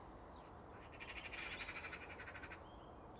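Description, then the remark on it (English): A big crow, declaring its territory over its tree, calls in a quick, rattling run of harsh pulses lasting under two seconds, faint against a steady low hiss, with no one talking. “Jeez, that was really, really nice to see that big crow just saying, "Hey, my tree, off you go."”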